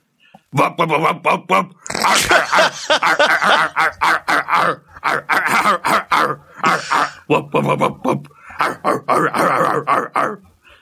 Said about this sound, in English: That is the sound that the dog made when he knocked your plate off at Christmas and grabbed your chicken.